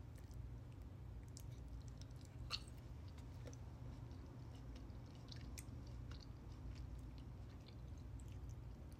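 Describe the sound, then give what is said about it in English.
Quiet chewing of soft, mushy food: scattered wet squishes and small clicks over a low steady hum, with no crunching and no talking. “Not crunchy.”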